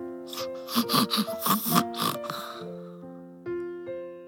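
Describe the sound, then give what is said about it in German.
A voice imitates the snoring of a small child asleep in bed in a dark children's room late at night, with a run of short, snorting, nasal breaths, fairly loud, over soft sustained music that carries on alone after the snores fade. “Ab und zu hörte man einen kleinen Seufzer. Seufzer. Oder Schnarcher.”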